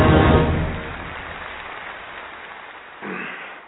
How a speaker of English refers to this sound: God damn, I don't know if it's just the patriot in me that gets me every time and makes me all teary-eyed, or it's the applause at the end. I don't know.